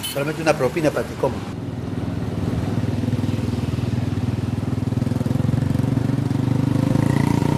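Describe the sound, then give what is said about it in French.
A motorcycle taxi engine starts up and runs loud, a steady throbbing drone that builds slightly, with a brief burst of voices or clatter at the very start, in the town of La Pampa, hired for a ride to the mining areas. “De la ville de La Pampa, il faut louer une moto-taxi pour se rendre dans les zones d'activité minière proprement dites.”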